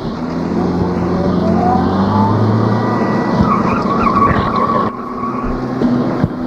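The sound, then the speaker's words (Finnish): A car engine revs loudly and pulls away as the tires squeal and screech, the rising whine holding for several seconds with no one speaking. “Ja nyt meillä on joka tapauksessa auto ja minä toimin kuskina.”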